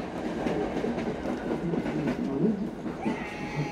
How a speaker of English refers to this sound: And the trains are very much running today. One every 2 minutes or so.